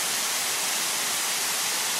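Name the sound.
waterfall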